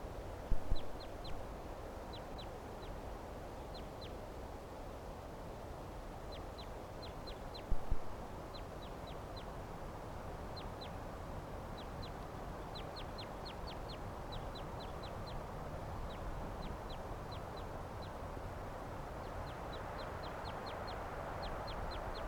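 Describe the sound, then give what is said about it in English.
Rapid series of sharp, high-pitched cackling calls from a Cooper's or sharp-shinned hawk, repeated in quick bursts throughout over a steady background of ambient noise, with no talking. “Recording now, there's a hawk here. Cooper's are sharp-shinned, cackling there.”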